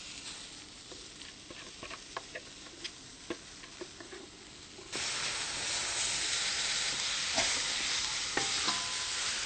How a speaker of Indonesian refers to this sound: Bahan-bahan ini sudah hancur. Sekarang kita akan tumis. Kualinya telah panas. Sekarang kita akan tumis, ya, bahan-bahan yang telah di blender.